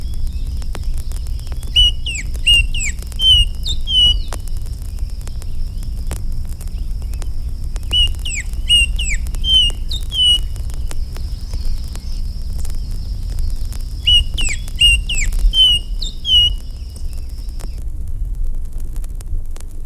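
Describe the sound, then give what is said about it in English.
Red-winged blackbird calls arrive in three separate bursts, each a quick series of short, sharp notes, heard over a steady low rumble of background noise. “These red-winged blackbirds give other calls in addition to the familiar conk-a-ree.”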